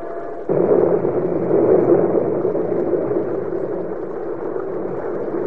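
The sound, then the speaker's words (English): A thunder clap in a storm breaks in suddenly after a brief quiet moment, then rolls on as a loud, steady, low rumble that slowly eases off over several seconds, with no voices. “Yeah, some storm, huh?”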